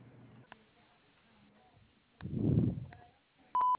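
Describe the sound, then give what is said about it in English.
A single short, steady electronic beep, the voicemail tone signalling to leave a message, sounds loudly at a clear mid-high pitch at the very end, following a brief muffled rumble of low noise and a few faint clicks. “Please leave a message at the sound of the tone, and I will get back to you as soon as I can.”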